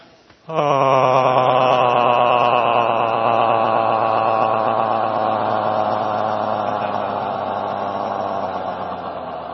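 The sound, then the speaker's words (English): A group of voices lets out a loud, sustained Tarzan-style yell together during a breathing energizer exercise with chest pounding, a warbling cry that starts abruptly and holds for about nine seconds before easing slightly. “We have a mandatory Tarzan yell here.”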